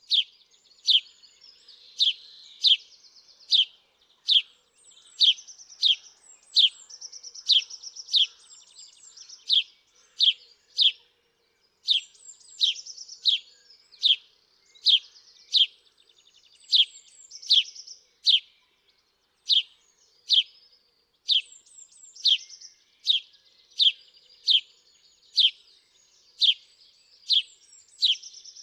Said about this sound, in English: This has been WSHU's Bird Song Break featuring the house sparrow.